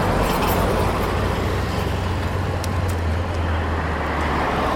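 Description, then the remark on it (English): Busy street traffic in downtown Nairobi rumbles steadily, with cars coming from the left and a minibus humming low from the right while people cross the road in between, and a dense wash of road noise throughout. “We're in downtown Nairobi. Cars are coming from the left, a minibus from the right, and people are crossing the road in between.”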